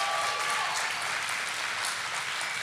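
An audience claps steadily for a woman who came 4,800 miles from France, a dense, even wash of many hands that holds at a constant level for a few seconds, with no voices over it.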